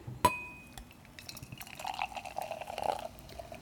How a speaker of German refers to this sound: Ja, jetzt. Ich gieße mal ein.